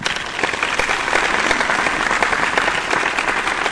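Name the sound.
audience applause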